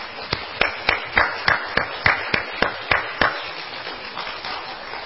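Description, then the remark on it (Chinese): An audience claps for a few seconds to honour the fathers present, who have stood up, a run of about a dozen sharp, crisp claps landing in a fairly steady rhythm, with no talking over them. “请父亲站起来，我们给你掌声。”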